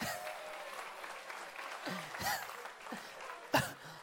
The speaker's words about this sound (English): Amen. Clap for her. Amen.